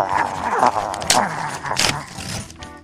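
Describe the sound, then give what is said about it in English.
Growly dog-like snarling and chewing noises mixed with two sharp bursts of paper ripping as an envelope is torn open by teeth; the dog sounds may be a person's voice imitating it. “Just a second, I have to gnaw into this.”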